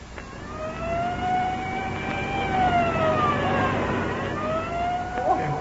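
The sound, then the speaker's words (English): A police car siren wails in steady rising and falling sweeps over a continuous engine and road rumble, loud, as the police car speeds along with a motorcycle escort; no talking. “These police cars are sure made to go when they have to.”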